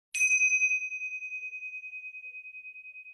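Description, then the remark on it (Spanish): A single meditation bell is struck once during a guided meditation, a clear bright ding with a sharp attack that rings out in a long, slowly fading sustain, heard alone with no talking. “Y cuando vuelvas a sentir la campana, vamos a permanecer en esta experiencia que estamos sintiendo ahora.”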